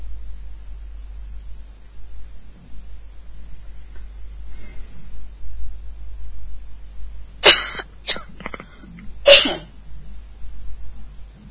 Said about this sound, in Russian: и я тут что-то кашляю